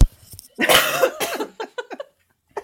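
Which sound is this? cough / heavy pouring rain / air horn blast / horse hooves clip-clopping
cough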